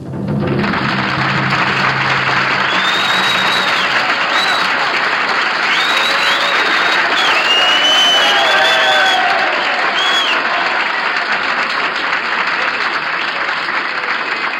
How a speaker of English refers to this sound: First thing that I'd like to say this evening is thank you for the reception. Magnificent rubato movement and applause here.